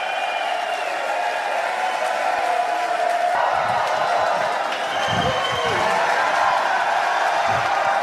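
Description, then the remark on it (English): A large crowd of Tesla stockholders cheers and claps steadily for about eight seconds after approval of Elon Musk's performance-based stock option award, a dense, loud roar of voices with occasional whoops rising above the continuous applause. “A lot of people say, why are everybody cheering for Elon Musk to get his $56 billion compensation package?”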